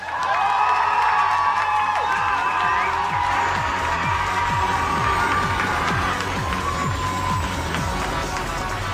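A crowd cheers and claps loudly and steadily for several seconds, with whoops and shouts rising over a dense wash of applause that stays at full strength throughout. The audience is voting for a contestant act by applause meter in the Julidol contest.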